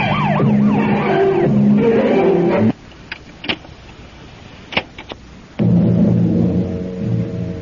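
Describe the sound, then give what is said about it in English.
A police car siren wails loudly in rising and falling sweeps, cuts off abruptly, leaving a few sharp clicks in near-silence, then a steady, droning multi-tone blare starts up again. “Hit the gas and turn on the squealer.”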